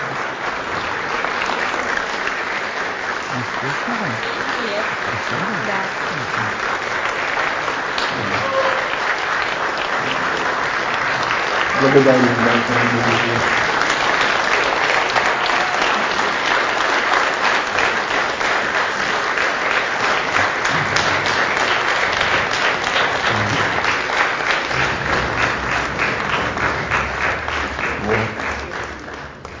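Sustained audience applause lasts about thirty seconds, a dense steady clatter of many hands clapping at an even loudness, with a brief vocal sound rising briefly midway.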